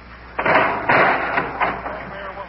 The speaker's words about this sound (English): Just open the door.